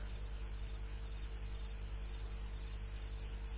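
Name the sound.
crickets chirping at night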